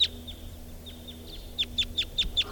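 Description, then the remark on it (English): Flight calls of a wild crossbill flying over to join another pair of birds, making three crossbills: a run of sharp, high, clipped chip notes, about eight in all, spaced irregularly at first and then coming faster and louder toward the end, with no talking. “This is that one wild bird flying over now, joining another pair of birds. And there are three crossbills here now.”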